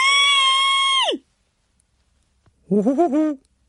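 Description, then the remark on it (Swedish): An elderly woman in the women's changing room of a public bath lets out a loud, shrill scream that holds steady for about a second and then slides down in pitch, followed after a short silence by a lower, wavering cry. “En tant fick syn på honom. Hon skrek.”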